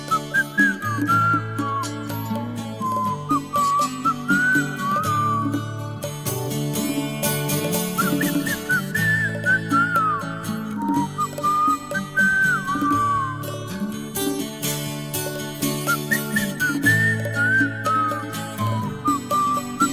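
A whistled melody floats over a steady band accompaniment, the bright tune gliding and wavering through repeated phrases at a moderate, even volume with no voices.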